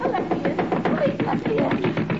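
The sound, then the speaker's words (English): Rapid, steady knocking on a ship's cabin door, about four sharp raps per second, continuing without pause while a voice is faintly heard underneath. “I'll try another door.”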